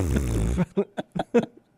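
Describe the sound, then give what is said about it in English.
A voice makes a wet, buzzing flutter like a botched rolled R, a low sputtering burst followed by four short choppy pulses that sound rather like a fart. “I can't do it. Mine sounds like a fart.”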